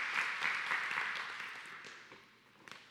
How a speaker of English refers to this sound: And so would you give her a hand clap there?